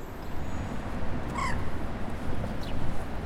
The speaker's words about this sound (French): Une corneille.